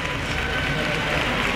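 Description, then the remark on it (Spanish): Sustained clapping from a crowd surrounding the Macarena procession float in the narrow streets beside the basilica on Good Friday morning, the applause breaking the silence; a dense, steady patter of many hands at an even loudness throughout, with a faint murmur of voices mixed underneath. “El silencio que se irrumpe por el aplauso”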